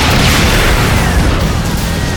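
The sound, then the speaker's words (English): Loud, dense battle noise of rockets fired by a squad exploding against tanks, blending into a continuous roaring rumble, with heavy low booms and crackling debris running together rather than landing as separate blasts. No voices. “Evans and his squad began firing their rockets at the tanks.”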